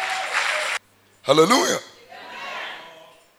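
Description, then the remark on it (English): An audience claps in a dense burst that cuts off abruptly, a loud voice shouts out briefly, and then softer clapping mixed with crowd murmur swells and fades. “Are you clapping those hands?”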